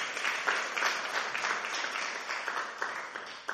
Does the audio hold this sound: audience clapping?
yes